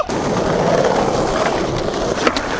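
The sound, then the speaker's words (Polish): A skateboard rolls steadily over a rough surface, its wheels making a continuous gritty rumble with a few sharper clacks near the end. No one speaks. “Na desce się nie siedzi, tylko jeździ. Dawajcie tutaj, chodźcie, jeździmy.”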